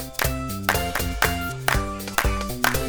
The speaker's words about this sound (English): This time we'll clap 1 to 8.